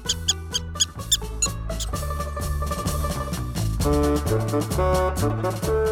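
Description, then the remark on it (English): Quick, high-pitched squeaks of a pet rat in a bin in a classroom, nipped by a cat, a rapid cluster of them near the start, set against a busy, steady musical backing that carries on throughout at moderate loudness. “The rat gets out of the bin.”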